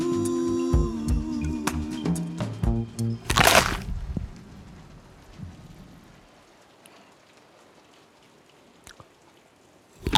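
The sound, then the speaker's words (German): Rain patters steadily against a window, a soft continuous hiss with scattered drops. Some tonal sounds and a brief loud rush come early, then the rain carries on quietly alone. “Hörst du den Regen plätschern? Den Regen am Fenster.”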